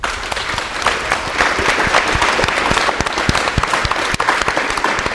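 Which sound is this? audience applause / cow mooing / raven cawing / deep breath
audience applause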